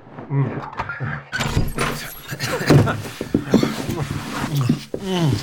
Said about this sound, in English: This is the room. Let me open the door.